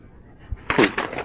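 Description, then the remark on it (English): Paper pages rustle as someone looks for a lost page of their paper, a brief burst of crisp, crinkly shuffling that starts after a quiet moment and continues in uneven flurries to the end. “I lost a page of my paper here.”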